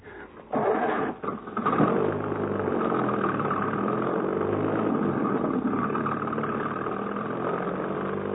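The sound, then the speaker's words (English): A car engine sputters to life after a brief quiet moment, then settles into a steady, low rumbling drone that holds at a constant loudness as the car pulls away. “Mount Devil Wagon at once, son.”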